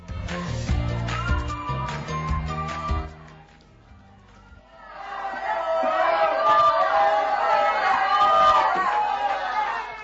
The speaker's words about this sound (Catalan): Això, aquests crits que heu escoltat, és l'ambient que es vivia en la sessió plenària d'ahir al vespre a l'Ajuntament.